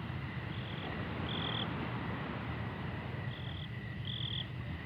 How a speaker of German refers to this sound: mit den Grillen einschlafen.